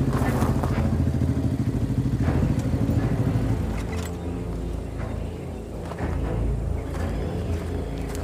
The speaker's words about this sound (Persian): صابر با موتور اومده جنگل